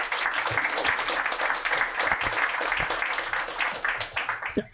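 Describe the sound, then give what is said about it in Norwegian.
An audience applauds to welcome two Norwegian Storting members of the business committee, Lene Westgaard Halle of Høyre and Per Vidar Kjølmoen of Arbeiderpartiet: a steady, dense wash of many hands clapping at a fairly constant level for a few seconds, with a handful of sharper individual claps standing out before it tapers off. “Gi dem en god applaus.”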